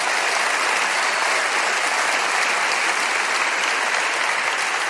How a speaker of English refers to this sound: Can we put our hands together for our law enforcement, everybody?